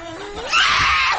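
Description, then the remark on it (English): A woman imitates a rabid dog as a prank on the Tyra Banks show, pretending to have rabies: a thin whining tone swells into one loud, harsh, rasping snarl that holds for about a second, with no other voices. “She's crawling around on her hands and knees. Barking and foaming at the mouth.”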